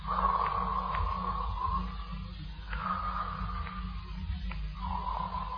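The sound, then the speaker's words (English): Deep, heavy breathing of a man sleeping in bed at night in Pimlico, England, with about three long, slow breaths in a steady rhythm over a low, constant hum. “He is in bed and sleeping, breathing deep the night air of Pimlico, England.”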